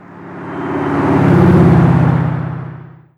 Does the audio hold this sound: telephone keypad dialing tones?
no